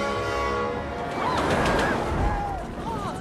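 A runaway train being chased in Metropolis rumbles loudly and steadily, a sustained horn blaring near the start while shrill, sliding whistles rise and fall above the roar.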